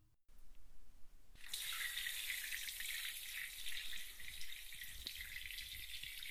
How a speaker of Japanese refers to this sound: では最初はシャワーで髪の毛を洗いますね。目を閉じていてください。